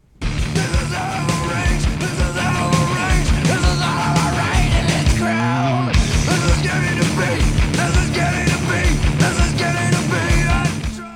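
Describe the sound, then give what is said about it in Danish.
On a grunge rock recording, the singer screams and yells in a raw, strained male voice over loud, distorted rock guitars and pounding drums, the full band dense and continuous with a brief break in the middle. “Han skriger på en helt særlig måde.”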